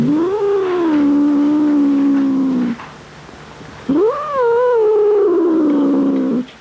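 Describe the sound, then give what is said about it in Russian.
A cat yowls twice while being held down lying on its right side, five days after an operation; each cry long, loud and drawn-out, with a brief pause between them and no talking. “Все, ты свободен, кот.”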